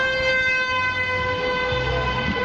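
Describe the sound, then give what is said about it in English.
Car horns honk in traffic in Tulare as drivers in the opposite lane honk to show support for a procession, a steady, blaring horn tone held almost without a break over a low rumble of engines. No one speaks. “A lot of people honking to show their support in the opposite lane.”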